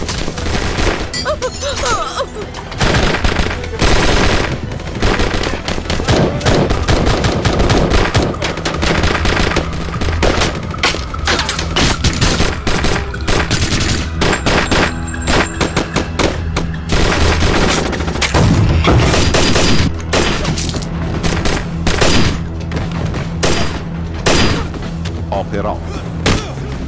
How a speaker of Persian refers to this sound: سمت راست شلیکان به جانبی حواست پشتت باشه.